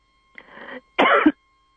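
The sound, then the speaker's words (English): A softer throat-clearing rasp is followed by one louder, sharp cough, two brief bursts in quick succession with nothing else around them. “the cough.”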